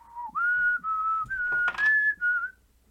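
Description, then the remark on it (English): Someone whistles a TV theme tune into a microphone, a clear, fairly loud melody of sustained, slightly wavering notes with a brief breathy rush partway through, fading out at the end. “Are you gonna whistle into the microphone?”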